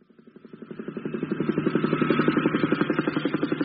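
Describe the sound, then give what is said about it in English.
Helicopters fly over, their rotors chopping in a fast, steady rhythm, swelling louder over the first second and a half, then holding a strong, even throbbing hum with no voices. “Oh, wacko, helicopters, jolly deed.”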